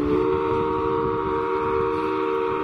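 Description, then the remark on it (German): The whistle of the old paddle steamer Montreux, built in 1904 and the oldest steamer of the fleet, sounds one long, steady blast as it casts off onto the lake: a loud chord of layered tones held unbroken for the whole moment, with a low rumble underneath and no voices. “Und während wir hier ablegen und auf den See hinausfahren, vielleicht noch ein paar Worte zur Lage und auch zur Form dieses Sees.”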